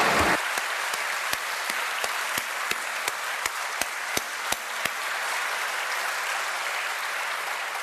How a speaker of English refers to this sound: And that's why I suggest a big round of applause for the parents.